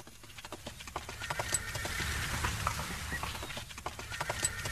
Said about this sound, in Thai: ว่ารถเทียมม้า2ตัวกำลังใกล้เข้ามาไม่มีใครตามหลังมาแต่พวกเขาวิ่งมาเร็วมาก